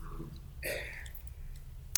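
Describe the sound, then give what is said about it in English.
An audience turns the pages of their Bibles to Deuteronomy 22: pages rustle and flip, with one distinct papery swish in the middle and a few faint scattered clicks and rustles around it. “I hear those pages turning.”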